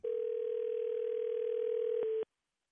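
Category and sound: signal or alarm, telephone dial tone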